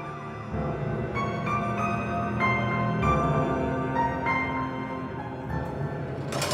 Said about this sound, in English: Ashley frowned and looked past him out the window. Red and blue flashed slivers across her face. Then he heard it. The whir of police sirens.